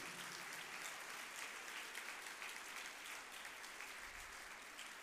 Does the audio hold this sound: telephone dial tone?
no